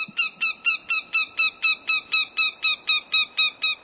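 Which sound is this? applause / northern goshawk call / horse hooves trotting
northern goshawk call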